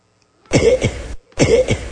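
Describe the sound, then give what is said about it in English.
Two loud coughing bursts in quick succession, each a harsh double hack, with a brief pause between them and no talking. “Okay, this is called cough cycle.”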